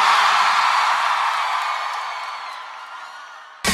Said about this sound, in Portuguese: Quem gostou, joga a mão e dá um grito, Salvador.